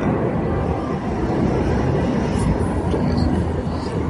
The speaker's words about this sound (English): But I would ask anybody to to stop flying planes overhead. Wow. Two within a couple minutes of each other. Yeah. That's insane.